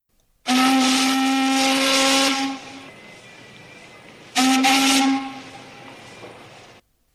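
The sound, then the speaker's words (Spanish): A passing warship's steam whistle blows at full force in two loud blasts, a long one then a shorter one, each trailing off into rushing steam hiss, with no voices. “los yacarés, hundidos en el agua, con los ojos y la nariz solamente afuera, vieron pasar el buque de guerra silbando a toda fuerza.”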